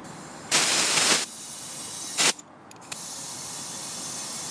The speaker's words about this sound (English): I suppose we're doing the equivalent of bailing the water on a sinking boat. We're actually pumping in air.